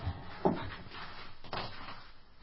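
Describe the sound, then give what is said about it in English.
A door is opened with a short knock-like clunk, then another soft thud about a second later, and a faint shuffling rustle in between, with no talking. “Come on, I'm going to close the door again.”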